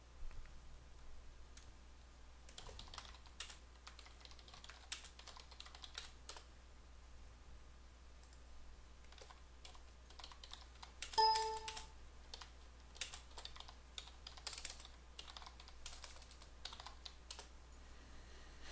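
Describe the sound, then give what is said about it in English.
Soft, steady clatter of computer keyboard typing, irregular bursts of key taps running the whole way through, with a brief electronic tone sounding once near the middle. No one speaks. “You'll be typing over somebody else if you don't.”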